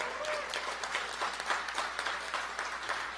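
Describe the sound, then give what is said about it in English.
An audience at a convention applauds steadily for teachers on stage, a dense wash of many hands clapping at an even level with no voices standing out, sustained for a few seconds. “Can we give them a round of applause, everybody?”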